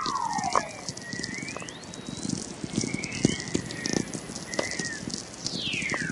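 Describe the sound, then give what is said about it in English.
Natural radio waves made by the Earth, picked up by a receiver: a steady hiss dense with crackling clicks and pops, while several sliding whistles fall in pitch, one at the start and another near the end. “When I discovered Earth makes its own radio waves, I was amazed because I'm a nature enthusiast anyway, you know, always been interested in astronomy and science.”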